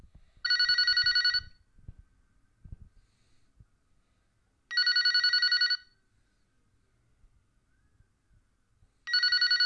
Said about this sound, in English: Will you shut your damn phone off? You're in church!